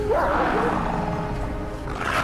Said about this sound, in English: Dogs come bounding towards them.